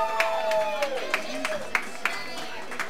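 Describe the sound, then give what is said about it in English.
Steady, evenly spaced hand claps, about three per second, ring out as brief sharp snaps over a sustained tonal sound that slides downward in pitch, a round of applause at a band's show for the man recording them. “But can we get a round of applause for this guy here”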